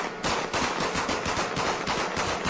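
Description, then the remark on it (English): Rapid gunfire from U.S. Army troops during looting, not aimed at people, in the 2003 Frontline documentary Truth, War, and Consequences: dense, overlapping bursts, a sustained stream of sharp cracks and pops at a steady loud level, with no voices. “But they weren't shooting at people in that clip, just so we're clear.”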